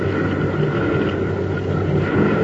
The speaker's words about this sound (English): Sounds like those boats are getting a little closer. Let's take a look. Looks like they're here.